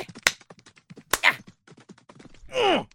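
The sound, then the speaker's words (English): Two sharp punches land about a second apart in a fistfight, each a crisp thwack, over busy scuffling, followed by a loud pained grunt near the end. “Takes a lot more than a few punches to take Sheriff Carlton down.”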